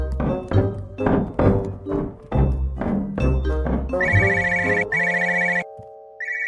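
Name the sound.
mobile phone ringtone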